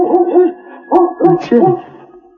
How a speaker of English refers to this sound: Hey, that's a dog back here in the woodshed. Hey, I wonder what kind of a dog.